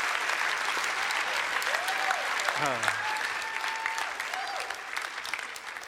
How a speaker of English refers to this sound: I was actually having a hard time clapping there, you know.